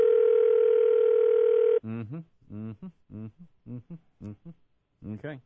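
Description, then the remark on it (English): A steady electronic telephone ring tone of an outgoing call sounds for almost two seconds, loud and unbroken, then cuts off and a voice starts talking. “Three ringy dingies.”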